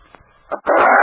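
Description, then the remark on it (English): A wounded wolf-dog hybrid, shot in the leg and weak from loss of blood, barks: one short, sharp bark, a brief pause, then a loud, drawn-out bark that carries to the end, with no voices. “Look at his wolf! Not all wolf. He's part dog.”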